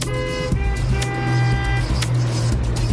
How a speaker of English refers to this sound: When traffic's a nightmare.